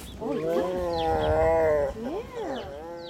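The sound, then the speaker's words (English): A grumpy female tiger at a big cat refuge growls and moans in long, rumbling, wavering calls, one sustained vocalization followed by a shorter rising-and-falling one, loud with no talking. “We leave the grumpy tiger to her nap in search of another artist.”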